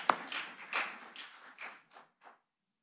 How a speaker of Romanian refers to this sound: De ce chiar să nu aplaudăm? Haideți să aplaudăm spre slava Domnului.